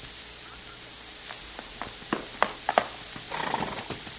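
Irregular horse hoofbeats clop against a faint hissy background as a rider is lassoed and pulled from his horse, a handful of sharp knocks coming closer together, then a brief rough burst of noise near the end.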